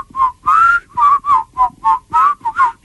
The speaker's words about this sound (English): He whistled it himself on the track, despite the fact he had never whistled before in his life.